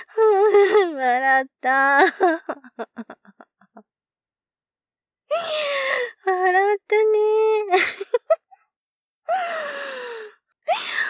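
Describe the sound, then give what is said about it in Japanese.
A voice whimpers and cries after being tickled, in wavering, high-pitched bursts, broken by gasping breaths and short stuttering sobs, with brief silent pauses between the outbursts. “泣いてたけど笑っちゃったね。”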